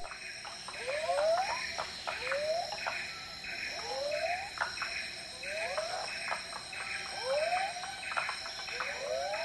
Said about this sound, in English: Those are Empress cicadas, I believe, and varieties of frogs. The title of the sound clip is Dusk by the Frog Pond, Kuba National Park, Sarawak, Malaysia.